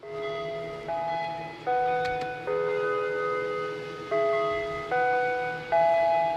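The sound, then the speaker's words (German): A Westminster chime gong rings out a slow melody of about eight resonant notes, each struck tone sustaining and overlapping the next, clear with no voices; it is the mealtime signal at Shady Lane, calling everyone to the kitchen building to eat together. “Zu jeder Mahlzeit erklingt irgendein Signal. In Shady Lane ist es der Westminster-Gong.”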